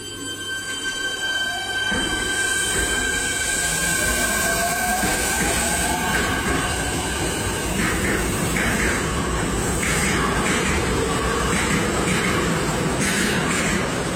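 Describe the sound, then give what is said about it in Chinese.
An electric tram in a tunnel pulls away after the operator presses the start button and pushes the control lever, its motor whine rising in pitch over a steady, loud rumble of wheels on rails, with occasional metallic squeals and clatter as it gathers speed. “控制员按下了启动键，推动了操纵杆，电车开始向前移动。”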